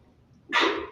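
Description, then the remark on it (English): A single abrupt sneeze bursts out after a brief quiet lead-in, loud and breathy with a harsh hiss that tails off quickly; no one speaks. “Bless you.”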